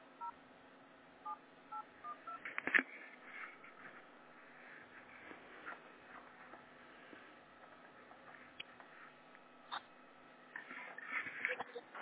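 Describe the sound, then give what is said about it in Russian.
A series of short telephone keypad tones beeps out at irregular intervals as someone tries to get through on a phone call, some in quick clusters, heard faintly through a narrow, tinny phone line with low background hiss. “Пока пытался дозвониться, все деньги списали.”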